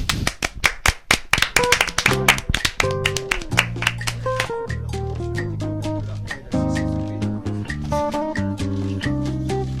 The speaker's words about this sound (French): Donc il y a un tonnerre d'applaudissements.